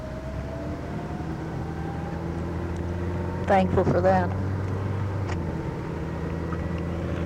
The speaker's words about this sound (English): Well, cars are chasing me up Pacific Coast. I better start going 60 miles an hour. They're going to kill me. I've put 80 miles on this beastie since I filled the tank up last night. Long distances here.